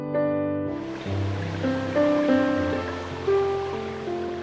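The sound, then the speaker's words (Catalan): A small stream running at the foot of a street flows steadily with a soft, continuous burble, moderately loud, while sustained melodic music tones play over it. “E d'aigua des baceres et cant del riuet, que cur a pe de carrer.”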